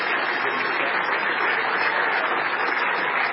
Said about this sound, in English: And in their defense, I'll say that I think a lot of that clapping that was going on there at that concert was non-Anabaptist people.